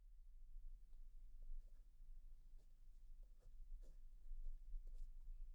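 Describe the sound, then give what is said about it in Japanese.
A pen scratches across a paper trial-lesson application form as it is filled in, in short, irregular strokes, fairly quiet, with brief taps and pauses between marks against a faint low hum. “じゃあ授業を始める前にこれだけ書いてもらっていいかな。”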